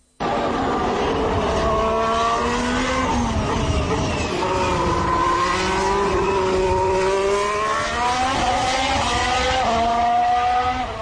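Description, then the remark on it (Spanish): A Formula 1 engine screams at high revs, its pitch climbing and dropping in repeated sweeps as it accelerates and shifts gears, loud and continuous for about eleven seconds with no talking. “Ahí se ven vueltas, Suena más, sí.”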